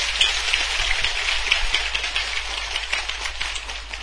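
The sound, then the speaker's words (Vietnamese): An audience applauds after a call for a big round of applause. Many hands clap at once into a dense, crackling wash of sound that holds an even, fairly loud level for about four seconds, with no voices over it. “Các quý vị hãy dành một tràng vỗ tay thật lớn.”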